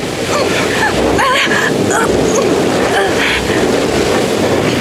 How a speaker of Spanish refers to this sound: Varias olas gigantescas, partiendo del lugar donde ha sido hundido el barco, se aproximan y hacen sacudir el frágil bote como si fuera cáscara de nuez. El pequeño bote está a punto de zozobrar.